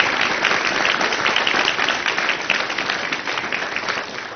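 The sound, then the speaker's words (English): A crowd applauds steadily for several seconds, a dense wash of many hands clapping at once with no pauses and no one speaking over it. “Okay, now I'm going to ask if you would just hold your applause till the end because we got quite a few songs to get through.”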